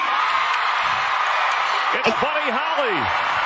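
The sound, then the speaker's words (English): A large dog show crowd roars and cheers loudly throughout as Buddy Holly, a PBGV (Petit Basset Griffon Vendine), wins Best in Show: a dense wash of noise, with a few high rising-and-falling whoops and yells breaking out over it in the second half. “And it kind of the crowd was, like, overwhelming.”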